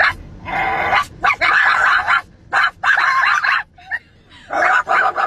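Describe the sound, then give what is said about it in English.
Two children imitate dogs, trading a rapid series of loud barks and yips in uneven bursts with brief pauses between, barking back and forth at each other. “Those are kids barking at each other.”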